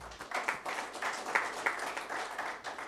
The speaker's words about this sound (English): Clap for her.